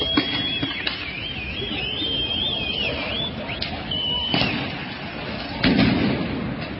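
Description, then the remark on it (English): Several sharp explosion booms burst out at irregular intervals amid a rumbling, crowded din as IDF soldiers run toward the mosque in the Al-Aqsa Mosque compound on the Temple Mount, while a high wavering whistle or siren tone rises and falls through the first half. “Dozens of soldiers running towards the mosque as explosions light up the air around them.”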